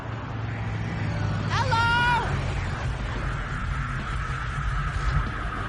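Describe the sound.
A small pickup truck's engine rumbles as it slows and pulls over behind a car, with a brief high squeal of brakes partway through, all under steady roadside noise and faint background voices.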